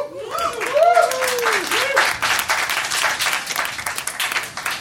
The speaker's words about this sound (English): So with your applause, pick a favorite